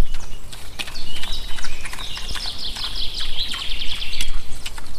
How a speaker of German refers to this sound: Was wir eben gehört haben, das war das zufriedene Schmatzen der Schweine im Schlamm.